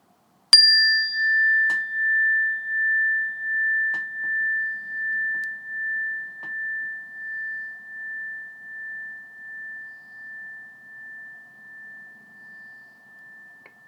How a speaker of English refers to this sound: When you hear the sound of the bell, start off by taking a few breaths in and a few breaths out, and then wait for further instructions.